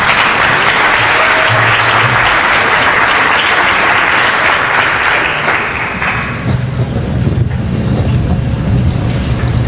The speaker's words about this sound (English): And if everybody could give him an initial round of applause, I'd appreciate it.